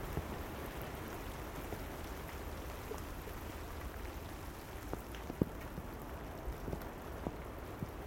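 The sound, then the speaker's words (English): Steady rain hisses evenly in a garden, with scattered louder drops ticking on leaves or hard surfaces. Soft and continuous, with no voices. “I wouldn't get a drop of rain on me.”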